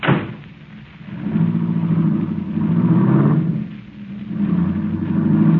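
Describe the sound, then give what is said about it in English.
A car engine turns over and then revs up as the vehicle pulls away, its steady rumble rising and falling in waves over several seconds with no voices. “Then you better slip over here and drive this car.”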